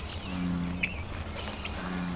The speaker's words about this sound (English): Bullfrogs, they wipe out the native frogs like the leopard frogs. They also can take a small turtle.